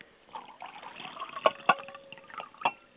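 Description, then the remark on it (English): Semi-sweet red raspberry wine pours into a glass in a steady, gurgling stream, broken by a few sharp clinks of glass. No one speaks. “So first things we're going to do is we're going to pour our wine, which is, again, a red raspberry.”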